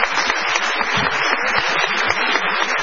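An audience applauds a guest steadily, a dense wash of clapping hands that holds at a fairly even loudness throughout with no voices standing out.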